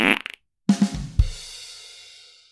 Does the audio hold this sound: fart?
yes